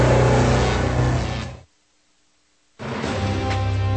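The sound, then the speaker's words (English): A loud car engine revs hard, cuts off abruptly into about a second of silence, then roars back at full volume. No one speaks. “This isn't some Detroit car commercial, and this isn't how we do it, not in any America I know.”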